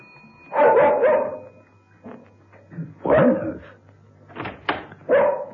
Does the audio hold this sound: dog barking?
yes